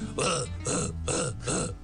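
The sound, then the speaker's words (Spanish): A voice imitates a handsaw with four rhythmic, raspy strokes, each pairing a hissing breathy burst with a low, throaty growl, steady and fairly loud, back and forth like sawing. “Y el serrucho.”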